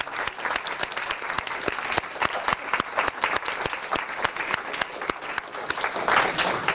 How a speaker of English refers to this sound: So before concluding, I would like also for all of you to thank all of your facilitators here with an applause and thanksgiving.